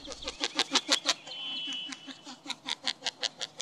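Rhythmic wing noise from a male northern lapwing in spring courtship flight: a steady run of muffled, almost barking pulses, roughly three a second, with a brief thin whistle partway through.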